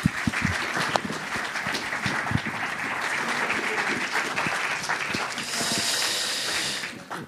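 A crowd applauds steadily for about seven seconds, a dense wash of many hands clapping at even loudness, with a brighter hissing surge of claps near the end before it fades out.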